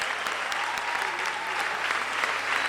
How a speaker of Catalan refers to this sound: Tots quatre, 25 anys ballant diferents balls de festa major de l'Esbart Santa Tecla. Prego que s'acostin. Aplaudiment per ells, ben fort.